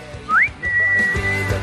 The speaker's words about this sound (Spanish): Pedazo silbido. ¿Quién habrá sido?